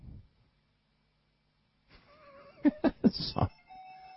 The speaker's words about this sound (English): There's all kinds of weird noises going on. That must be the phone.